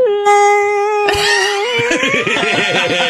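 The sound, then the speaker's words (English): A voice imitates whale noises like a growling stomach: a long, steady, high moan that breaks into warbling, sliding wails, loud for about three seconds, with no other talking. “Like, yeah, whale noises.”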